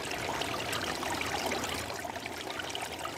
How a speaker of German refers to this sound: Weil sie das Wasser unter sich rauschen hörte, hatte sie ganz dolle Angst.